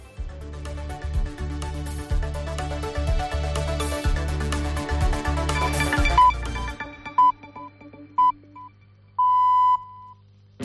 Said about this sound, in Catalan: Ara sentiràs les senyals horàries.